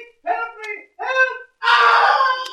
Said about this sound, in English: How long he had slept, he did not know, when abruptly he woke with a scream ringing in his ears. The cry came from downstairs.